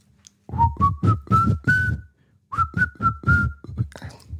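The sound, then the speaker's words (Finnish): A person whistles a short song melody, clear rising tonal notes in two phrases separated by a brief pause, each note sharply pulsed with no talking. “Tää on niin vaikea tää alku tähän, kun mä haluaisin viheltää tän.”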